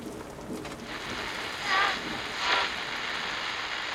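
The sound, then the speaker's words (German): A heavy rain shower pours down in a dense, steady hiss, swelling briefly louder twice as gusts pass, with no voices present. “Aus dem Cumulonimbus fallen häufig heftige Niederschläge in Form von Regenschauern, Schneeschauern, Hagelschauern und Graupelschauern.”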